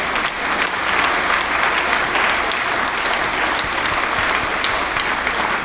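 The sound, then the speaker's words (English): A crowd applauds steadily during a speech on housing reform, a dense wash of many hands clapping that stays loud and sustained throughout with no voices rising above it. “Yeah, so definitely heard the applause build there.”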